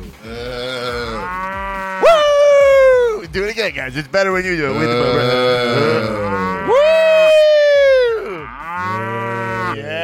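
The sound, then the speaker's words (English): Two long, loud cow moos, each a drawn-out, wavering bellow lasting a couple of seconds, with excited voices talking and cheering between and around them. “Where's the moo?”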